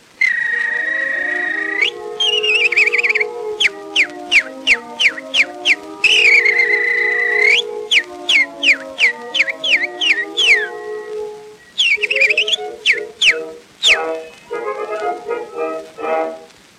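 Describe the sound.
Bright whistled nightingale imitations over an old orchestral accompaniment from a 1916 French song: long held whistle notes break into quick repeated chirping trills, loud, with the band sustaining chords beneath.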